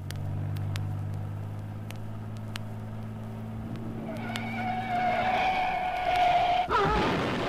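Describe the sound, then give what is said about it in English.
A Thunderbird car whose brakes need adjusting drives by with a steady low engine rumble that gives way to a rising, high-pitched whine and a brief tire squeal near the end. No one speaks. “Careful with the T-bird. The brakes need adjusting.”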